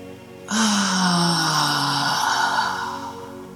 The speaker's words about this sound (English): Let's begin this process by bringing in a cleansing breath, very audibly breathing in through the nose and breathing out through the mouth with a sigh.